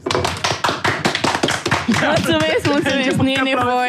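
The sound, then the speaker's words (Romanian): A quick burst of sharp, loud claps, rapid and uneven for about two seconds, followed by tonal music with a voice taking over. “Este melodie propusă de mine, vă rog, aplauze!”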